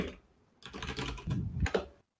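A rapid, continuous patter of keystrokes on a computer keyboard, fairly clear, with a few louder clacks near the end before it stops abruptly; no one speaks.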